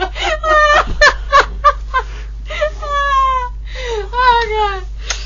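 A dog outside, scared by a funny noise, answers with a run of high, wavering yelps and drawn-out whining howls, rising and falling in pitch, moderately loud against a steady low hum.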